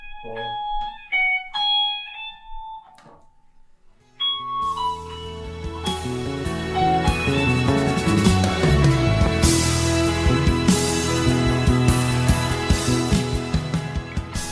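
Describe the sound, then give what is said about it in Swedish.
A plugged-in Fender electric guitar opens with a few sparse, ringing bell-like notes, then breaks into loud, dense, sustained playing with rich overtones that continues steadily to the end, with no talking. “om jag skulle plugga in den där fänden, skulle du kunna spela den för mig då?”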